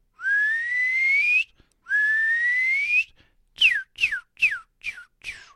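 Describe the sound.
A person whistles an imitation of a bird call: two long rising whistles followed by five short, quick downward-swooping chirps, clear with no talking.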